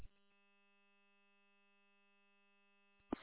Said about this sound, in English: Yeah, I keep hearing a beeping on this repeater when you're transmitting. On my end, that's what I'm hearing.